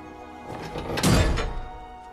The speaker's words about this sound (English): Grand Santa turns a big, rusty-looking key.